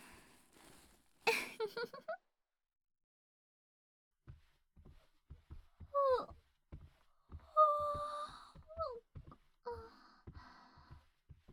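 A woman's breathy yawn with a voiced tone sliding up and down, followed after a pause by soft mouth clicks, quiet breaths and small sighing vocal sounds.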